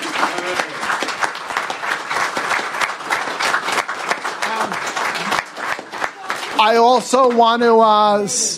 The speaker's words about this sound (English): So I want to get a big round of applause first for them.